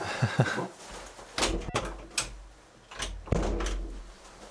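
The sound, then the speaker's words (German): A door to a laundry room is opened and shut, with a few scraping, creaking sweeps, a sharp latch click, and a solid thud as it closes. No one speaks. “Warte mal, ich mach mal, vielleicht kennen die Leute ja keine Tür.”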